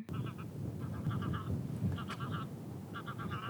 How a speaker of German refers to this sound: Ein paar Graugänse fliegen schon direkt an uns vorbei.